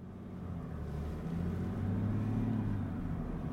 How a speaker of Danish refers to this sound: Til gengæld så kan jeg godt lige høre den her bulleren for den her 6-cylindrede dieselmotor. Og læg så mærke til, hvad der sker. Jeg trækker i D og træder på speederen.